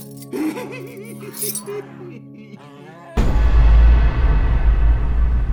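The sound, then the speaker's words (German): Metallic clinks and jingles of keys ring out over faint background voices, then a sudden loud burst of jangling and rattling with a low rumble takes over for the rest. “Der Schlüssel.”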